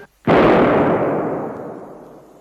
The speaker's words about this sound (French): D'où vient cette détonation? Un coup de canon, monsieur, de cette frégate à 3000 sous le vent. Que monsieur me pardonne, elle court sur nous avec l'intention évidente de nous couler.